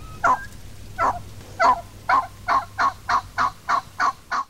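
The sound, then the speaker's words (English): A wild turkey's assembly call, which brings a flock together: a series of about eleven loud, evenly spaced yelps that quicken slightly toward the end, with no talking and only faint low rumble in the background. “That was an assembly call. According to the National Wild Turkey Federation, it brings a flock together.”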